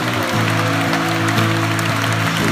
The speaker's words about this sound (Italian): Un applauso allo Spirito Santo. Un applauso più forte allo Spirito Santo.